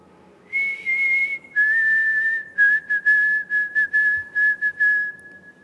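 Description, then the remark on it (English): Bird song filling the woods, of clear, whistled notes: a long steady tone drops slightly in pitch, then breaks into a run of short rhythmic chirps at the same pitch, fairly loud, with no talking. “You hear this rich, beautiful bird song and it fills the woods.”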